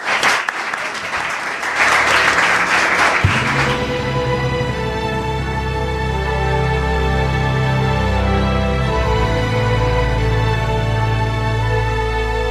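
A crowd applauds loudly for about three seconds, a dense wash of clapping hands, before a sustained musical passage comes in and carries on to the end.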